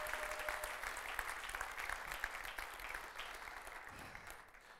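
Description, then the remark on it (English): Sustained applause from a church audience, given as a warm thank-you: a dense steady patter of many hands clapping at an even level for several seconds with no voices on top, tapering slightly at the end. “Let's give them a warm, warm thank you.”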